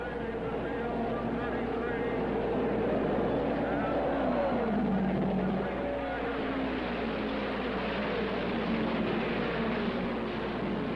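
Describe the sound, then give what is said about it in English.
A dense, loud roar of race car engines accelerating together at the start of a 200-lap race, turbine, Offie and Ford cars heading into the first turn, with whining pitches rising and sliding over a continuous rumble for the whole stretch, unbroken. “Into the first turn, it's Turbine, Offie, Ford, Offie, Ford, Turbine. 200 laps to go to the finish.”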